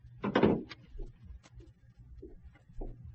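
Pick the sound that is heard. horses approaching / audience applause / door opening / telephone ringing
door opening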